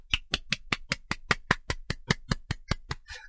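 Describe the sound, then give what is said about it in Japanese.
A single person claps steadily, about fifteen sharp, evenly spaced claps at a brisk rhythm, ending with a brief soft rustle. “寂しいな、一人で拍手してね。”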